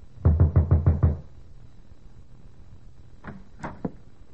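knocking on a door

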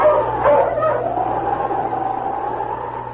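dog barking

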